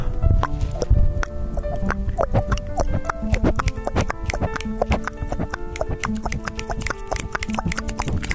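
Water drips steadily onto a microphone to make rain, producing a dense run of loud plops and taps with irregular rhythm.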